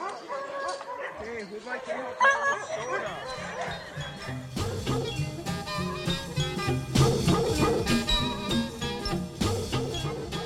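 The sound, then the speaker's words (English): A pack of excited sled dogs, harnessed and hooked up to a sled before a run, barks and yips nonstop in a dense overlapping chorus of high-pitched yelps and whines, with a person talking underneath. “All right, the dogs are hooked up and they are excited. They are going berserk.”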